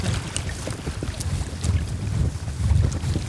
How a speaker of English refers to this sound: No, we came here because we wanted to listen to the sea. Then we arrived and we saw the sea. We smelled the sea.